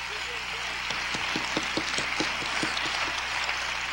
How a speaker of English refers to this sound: Clap your hands, somebody. Clap your hands, everybody.